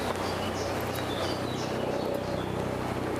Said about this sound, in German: Das klingt schwer nach einem Hubschrauber. Was daran liegen könnte, dass es ein Hubschrauber ist.